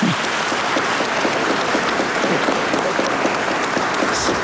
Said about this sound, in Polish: To możemy jeszcze raz oklaski dla tych, co przygotowują.